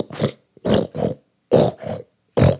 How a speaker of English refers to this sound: Then I took out the plunger and I started pumping the drain.